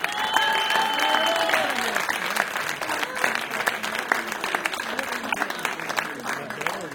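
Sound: audience applause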